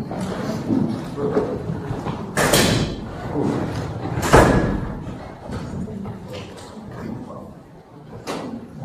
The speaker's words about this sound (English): So maybe we should have the doors closed now, and I'll do that.